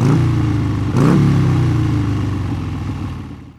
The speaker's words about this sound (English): Watch out! It's a motorbike. Watch out! It's a motorbike.